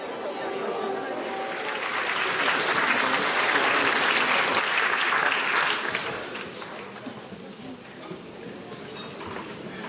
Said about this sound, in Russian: Так звучит театр перед началом спектакля. Еще несколько секунд шарканья опоздавших, глухого покашливания, и в зале, прежде чем на сцене зазвучат голоса актеров, установится абсолютная тишина.